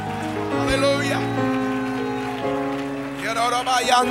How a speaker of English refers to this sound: Would everybody clap your hands and shout unto God?